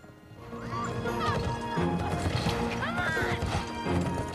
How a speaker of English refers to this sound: They spur their horses on to a gallop. The horses' hooves kick up dust as they gallop along.